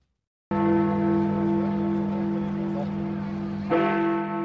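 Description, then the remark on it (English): The Big Ben clock bell in London rings out at 11 p.m. on 31 January 2020 with deep, sustained resonant tones, struck loudly once and then again near the end, each strike blooming into a long humming decay with no one talking. “These are the chimes of the Big Ben clock in London.”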